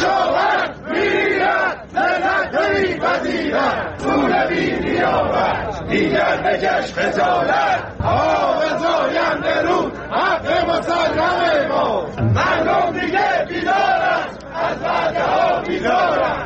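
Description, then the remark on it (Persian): A large crowd of farmers from east and west Isfahan, gathered on a Saturday in the town of Chadegan, Iran, protesting the handover of their Zayandeh River water rights and the river's drying, chants and shouts together in loud, rhythmic bursts, many voices rising and falling in unison with brief pauses between slogans. “بنابر گزارش‌های منتشر شده در شبکه‌های اجتماعی، کشاورزان شرق و غرب اصفهان در اعتراض به واگذاری حقابه خود از زاینده رود و خشکی این رودخانه روز شنبه در شهر چادگان تجمع کردند.”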